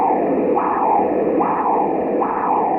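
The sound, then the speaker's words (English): Doppler ultrasound of blood flowing through a person's brain, picked up by an ultrasound machine pointed at the temple, where the skull bone thins: a dense, steady whooshing roar that swells in rhythmic pulses about every second, like a heartbeat, with no voices. “This is blood surging through a person's brain.”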